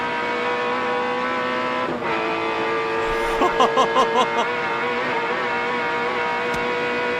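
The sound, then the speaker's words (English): A V8 race car engine roars loudly and steadily as cars race toe-to-toe out of Mazda Corner at the mountain, with Peter Brock racing, its deep droning note holding throughout, with a brief burst of rhythmic revving pulses partway through. No one speaks. “Just listen to that awesome V8.”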